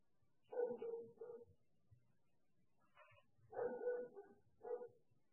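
A dog barks in two short bursts, a quick run of yappy barks, a pause, then a few more, with no talking around them.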